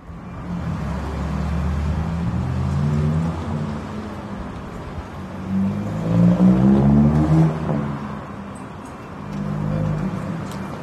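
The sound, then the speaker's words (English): Steady low rumble of city traffic outdoors at night around 10:30 p.m. by the steps of St. Paul's, with a vehicle's engine swelling and passing midway through before the hum settles back. “So why are we sitting outside at 10:30 p.m. at an ungodly hour on the steps of St. Paul's?”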